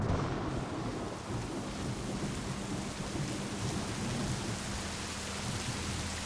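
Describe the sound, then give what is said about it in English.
Heavy rain pours steadily in a thick, continuous hiss, with deep rumbles of thunder rolling low underneath throughout, depicting the rainstorm on the morning of May 31, 1889, in Johnstown, Pennsylvania. No voices, just the sustained roar of a thunderstorm. “The morning of May 31st, 1889, John Park looked out the window to see an onslaught of rain.”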